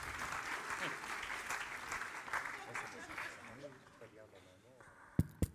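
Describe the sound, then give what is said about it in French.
An audience claps steadily, a dense wash of applause that gradually thins out as a voice begins talking, ending with a couple of sharp knocks. “On peut l'applaudir.”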